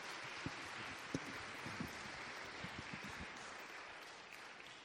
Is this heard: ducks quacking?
no